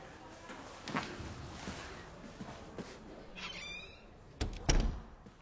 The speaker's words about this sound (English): Will you close the door, please?